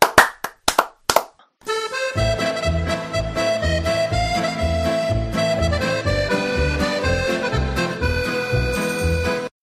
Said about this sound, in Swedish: Men du, jag tycker att allt det här, det förtjänar bara en stor applåd.